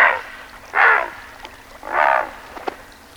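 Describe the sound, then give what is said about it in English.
A great blue heron gives three harsh, raspy croaks, each a rough, buzzing squawk under half a second long, separated by short pauses with no voices present. “It may, but this sound comes from a present-day creature, the great blue heron.”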